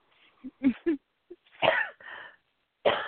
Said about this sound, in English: Excuse me. I'm having that chemtrail cough now. It's that time now.